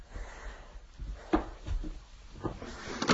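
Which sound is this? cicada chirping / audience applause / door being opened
door being opened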